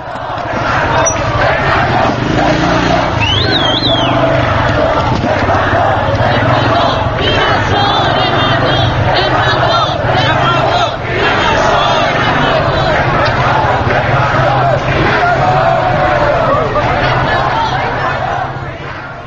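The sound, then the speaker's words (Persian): A large crowd of protesters in Tehran chants slogans in unison, such as "Political prisoners must be freed" and "Death to the dictator". A dense roar of many voices rises and falls in rhythmic bursts, loud and continuous throughout, with shouts and babble mixed in. “شمار زیادی از معترضان در حال شعار دادن در متروی تهران و خیابان‌های منطقه آریاشهر، امیرآباد، ونک و شریعتی دیده می‌شوند که شعارهای زندانی سیاسی آزاد باید گردد و مرگ بر دیکتاتور می‌دادند.”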